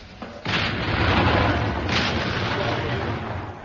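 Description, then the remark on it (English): The 74th Medium Regiment RA (Royal Artillery) firing over open sights: a heavy boom bursts in after a brief pause, followed by a second blast around two seconds later, both trailing into a loud, continuous low rumble. “And there you hear the 74th medium regiment RA firing over open sights smack into the pudding itself.”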